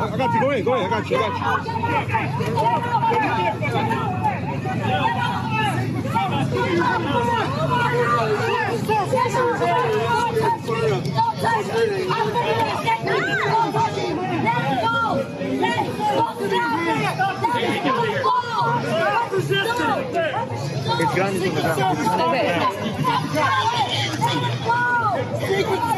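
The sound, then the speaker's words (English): Dense outdoor crowd chatter on a street in Los Angeles near a presidential motorcade, many overlapping voices with a steady low rumble of vehicles beneath, continuous and loud throughout. “She's a danger to herself and others, and everybody in the crowd, and that lady with the skateboard saying, get off her.”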